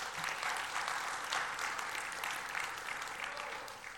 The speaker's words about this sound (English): Yeah, you should clap to that, by the way. You should.